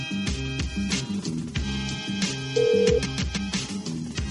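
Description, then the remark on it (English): A telephone rings on an outgoing call to a place called Rhythm and Roots in Utica, New York: a steady run of melodic electronic tones with a beat-like pulse, one sustained higher note standing out partway through. No one speaks. “We're taking a stroll down Utica, New York right now, and now we're calling a place called Rhythm and Roots.”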